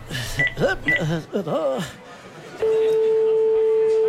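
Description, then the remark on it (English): A steady electronic telephone ringing tone comes on the line after a brief stretch of voices and small beeps, holding at an even, fairly loud level until the end. “Oh, it's ringing.”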